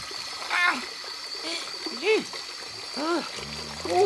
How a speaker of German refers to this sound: So, also jetzt mal zuerst Stopsel rein und dann Wasser laufen lassen.